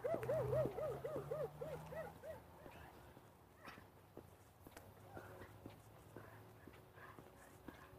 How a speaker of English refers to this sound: Her dog.